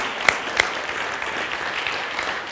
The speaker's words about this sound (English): to give these two and all of these a big hand right now.